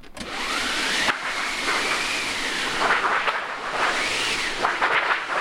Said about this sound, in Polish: Jeżeli przychodzą wycieczki, to właśnie jedną z atrakcji jest maszyna do wiatru.